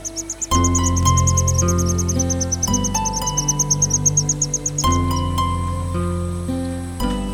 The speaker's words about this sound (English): The chirping of these chicks have spread a soundless music in this silent bamboo thicket.